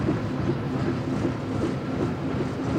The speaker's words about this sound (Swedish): Det klonkande ljudet, vad är det för något? Det är drivhjulens varvtal. Det är koppelstängerna som är lite ojämna.